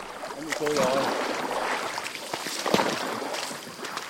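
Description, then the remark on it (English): Steady rush of the Ca Tang River in Vietnam around a small boat crossing to K Village, a Maliang village, with splashing and sloshing throughout, a brief knock partway through, and faint voices in the background. “In order to get there, though, we have to cross a river.”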